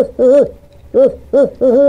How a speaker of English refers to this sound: Okay, here, let's hear that barred owl again.